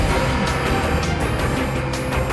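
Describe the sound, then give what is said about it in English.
A Ferrari sports car engine roars steadily at high revs as a man drives it, loud throughout, with a dense low rumble and no voices. “a young brown-haired man wearing sunglasses drives the Ferrari.”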